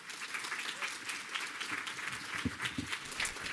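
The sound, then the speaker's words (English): An audience applauds the reporters who presented their stories at the end of the lightning talks. The clapping is steady, a dense wash of many hands at a fairly constant level, with a few sharper bursts poking through. No one speaks clearly over it. “Let's give a big round of applause to all the reporters who presented their stories.”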